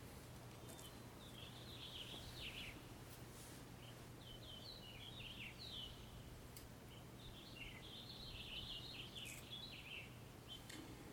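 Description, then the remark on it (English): A finch sings in several bright, twittering bursts, fairly soft, over a steady low hum of outdoor background noise. No one speaks. “Finch sings, and the turkeys bellow.”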